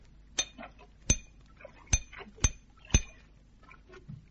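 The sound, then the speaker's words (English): Five sharp metallic clinks ring out at uneven intervals as metal is struck against metal to knock a shackle out of an anchor cable, each hit bright and ringing briefly before fading, with faint low rumbling between strikes. “See if you can knock the shackle out.”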